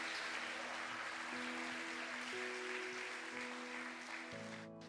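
An audience applauds Jesus steadily in a dense, continuous wash of clapping, with sustained organ or keyboard chords underneath that shift pitch a few times before the applause fades slightly at the end.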